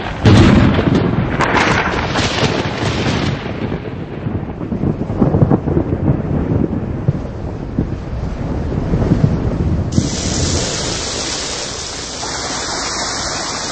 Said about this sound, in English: The water it carries condenses into clouds and then falls as the life-giving rains of the monsoon.